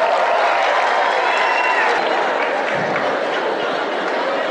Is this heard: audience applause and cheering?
yes